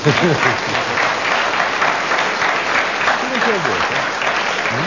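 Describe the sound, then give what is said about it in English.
An audience applauds Derek Nimmo for keeping going for 55 seconds, in a steady, dense patter of clapping throughout, with brief voices rising and falling over the top at a couple of points. “I think we should give a round of applause to Derek Nimmo, because he kept going.”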